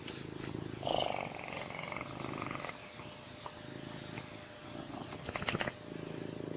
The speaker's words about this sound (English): Oh, look at this handsome kitty purring. Very happy boy.